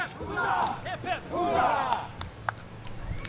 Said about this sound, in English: And we just heard the hip hip huzzah. Is that a regular ritual? Game's over. You cheer each other team, you shake hands, and then there'll be a break before our next game.